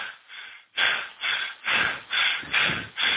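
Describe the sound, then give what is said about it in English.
Loud heavy breathing in quick rhythmic bursts, about seven harsh, airy pants in a row with brief pauses between, and no talking. “The heavy breathing is my favorite.”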